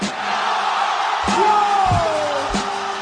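A large crowd at the Red Bull Batalla de los Gallos 2019 freestyle rap battle roars and cheers continuously in an ovation, with shouts and whoops rising from the dense, steady din and a few sharp thumps breaking through.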